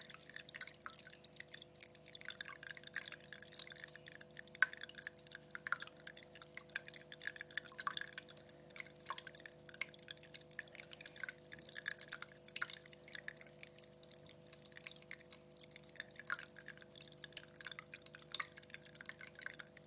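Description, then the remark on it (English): A small tabletop water feature on a bedside cabinet trickles and splashes steadily down a series of pots, a continuous patter of dripping water with a faint steady hum underneath and no talking, heard through a phone held near it. “It's nice because it cascades down all the pots.”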